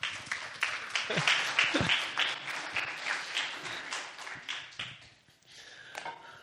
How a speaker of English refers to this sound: I don't get clapped for very often.